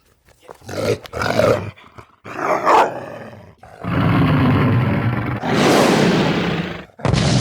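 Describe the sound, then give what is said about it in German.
A dachshund, acting as an angry guard dog, barks at a danger, but the sound comes out as deep, booming roars: a few short loud bursts followed by two long, sustained roaring blasts, powerful, with no voices. “Der Dackel, ganz und gar aufgehend in der Rolle als sich selbst völlig überschätzenden, erbosten Schutzhund”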